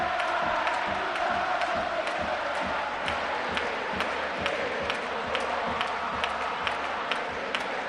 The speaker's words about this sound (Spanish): El himno del Córdoba, como llueve dirá la gente, vamos a cantar. Minuto 54, que es el año de fundación o de refundación del Córdoba Club de Fútbol, por eso se canta en este momento.